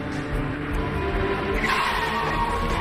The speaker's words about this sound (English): She slams on the brakes, stopping inches in front of Dean.